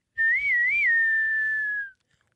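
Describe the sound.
A person whistles a short Old West–style phrase, loud: two quick wavering notes, then one long held tone that slowly slides down and stops. No one speaks.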